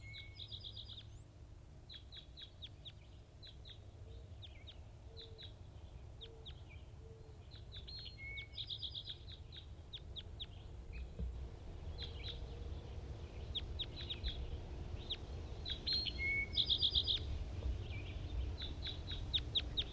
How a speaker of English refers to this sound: Recording wild birds.